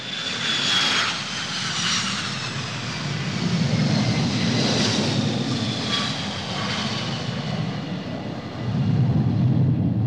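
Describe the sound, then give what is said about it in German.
A loud, steady airplane engine roar fills the whole stretch, a broad low rumble with whining high tones drifting downward as a plane from Tehran comes in to land at Cologne airport in late October 1993, no voices. “Ende Oktober 1993, wenige Wochen vor dem ersten Gerichtstag, landet ein Flugzeug aus Teheran am Kölner Flughafen.”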